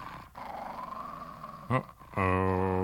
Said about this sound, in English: Was that what I think it was? It sounded like a dog. It sounded like several dogs. You haven't by any chance heard the rumor that there's a pack of wild dogs that run around this part of the woods?